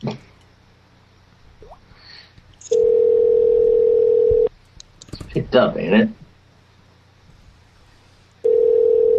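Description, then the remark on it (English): A telephone ringing tone for a call to someone's mom sounds as two long, steady, mid-pitched buzzing bursts separated by a pause, with a short stretch of voices and clatter in the gap between them. “Oh, I'm calling the mom right now?”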